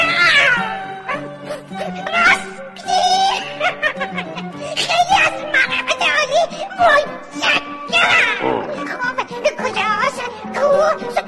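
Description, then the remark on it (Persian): A cat meows and caterwauls loudly, its drawn-out, wavering yowls repeating throughout, mixed with a person talking over them. “صبر داشته باش، صبر داشته باش گربه، گوش بده چی میگم.”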